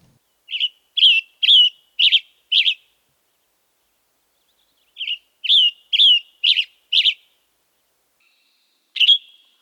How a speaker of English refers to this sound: Another bird that we can find out that has a similar song to both the robin and the black-headed grosbeak is the western tanager.